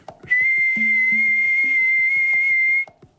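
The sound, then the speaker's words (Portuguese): A loud, steady high-pitched whistle, one version of the whistle attributed to the Saci of folklore, holds one unwavering tone for about two and a half seconds, with faint low knocking sounds ticking rhythmically beneath it. “Então é um assobio contínuo muito alto, seria...”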